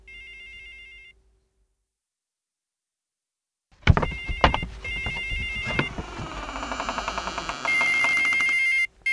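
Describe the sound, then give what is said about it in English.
A mobile phone's electronic ringtone chirps briefly, falls silent, then returns under a burst of clattering and knocking before settling into a steady ringing tone. “With a mobile phone!”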